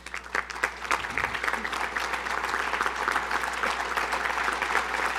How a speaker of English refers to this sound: Now I'm gonna tell you why you're applauding.